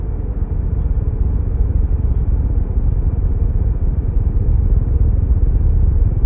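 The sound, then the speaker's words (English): A loud, steady engine rumble fills the whole stretch, low and droning with a faint rise in intensity, as a plane's engines kick in and it starts moving along the runway. “My pulse quickened as the engines kicked in, and we started moving.”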